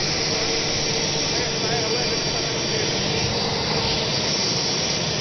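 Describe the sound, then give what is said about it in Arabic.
A loud, steady roar of airplane jet engines as the plane carrying returnees shuts down its engines, a broad rushing whine that holds at an even level throughout with no pause. “الآن تطفئ الطائرة محركاتها”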